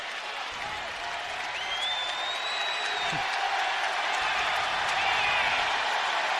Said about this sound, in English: And the West Virginia fans applauding the effort on the loose ball.